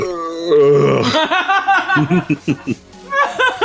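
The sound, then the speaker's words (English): A short, forced fake burp, voiced and a little strained, is followed right away by a run of bursting laughter that pulses in quick rhythmic bursts. “It was a fake burp.”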